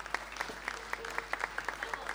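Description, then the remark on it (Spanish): A short burst of audience applause for a musician of a band: many hands clapping in a dense, crackling patter with regular sharp peaks, moderately loud and steady throughout, no voices standing out. “Un aplauso.”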